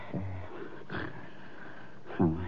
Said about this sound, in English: So what do we do, sit here and listen to him snore?